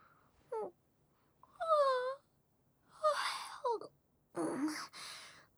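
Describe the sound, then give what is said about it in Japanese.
A few drawn-out, breathy yawns, each voiced with a falling, moaning pitch and separated by short silences; no speech. The yawning is done in front of other people. “まったく、人前でみっともないあくびさらして。”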